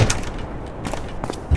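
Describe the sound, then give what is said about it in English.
A door in a video game test map opens with a short sequence of clunky, noisy mechanical bursts, ending in a low thump. The sound is fairly loud, with no voices. “So if I go through this door”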